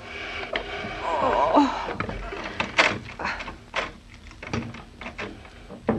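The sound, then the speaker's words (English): Two people push a heavy chair, rather than lifting it, across a floor in several uneven pushes, with squeaky scraping near the start and dull knocks and thumps along the way, moderately loud. “Give me a hand with the chair, Mama, will you? All right. It's against my better judgment. Let's not lift. Let's push.”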